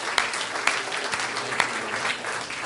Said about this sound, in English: Let's give him a hand clap of praise tonight.